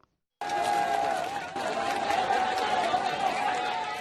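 In Kathmandu, Nepal, after an earthquake, a crowd breaks into sustained applause and cheering as rescuers pull a 15-year-old boy from the rubble of a hotel: dense clapping mixed with shouts and whistles, loud, starting abruptly after a brief silence and continuing steadily.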